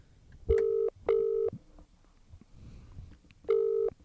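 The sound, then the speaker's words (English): A phone ringing out on the line: two short ring bursts, a pause of about two seconds, then another ring begins. It's steady and fairly loud, with no one talking. “Answer your blimmin' phone.”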